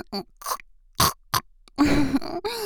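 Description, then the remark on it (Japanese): A person imitates a pig, making several short nasal grunts followed by a longer, rougher snorting sound, fairly loud with brief pauses between. “豚の真似しながら私の言葉を復唱してくださるかしら。”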